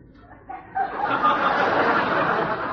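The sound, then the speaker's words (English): A person's voice imitates a duck, letting out a loud, raspy stream of quacking that starts abruptly and carries on steadily for a couple of seconds, with no other talk. “Duke, not duck.”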